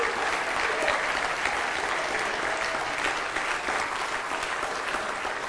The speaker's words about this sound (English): Oh, give the Lord a hand clap of praise here tonight.